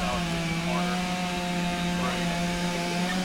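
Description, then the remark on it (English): A chainsaw runs steadily at a constant, buzzing engine pitch, loud, with slight shifts in tone as the throttle holds, used by fire crews practising during a training drill in case fallen trees block their paths. “Teams break out the chainsaws to practice in case fallen trees block their paths.”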